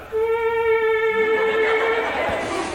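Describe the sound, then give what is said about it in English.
An electronic instrument mimics a mosquito with a steady, thin buzzing whine held for about two seconds, fairly loud, then dissolving into a brief noisy hiss. “Mosquito.”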